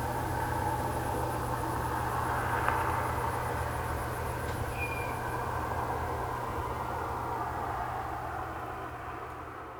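Faint, rapid, high-pitched cricket chirping pulses through a still night ambience for the first half, set over a steady low rumble like distant traffic; no voices.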